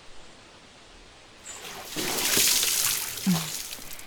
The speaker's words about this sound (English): Time to wake him up, girls. Throw some water at his face.